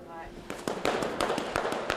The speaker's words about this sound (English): you hear those brooms slapping in front of the stone. Sometimes I have heard through my earphones the sort of crinkle.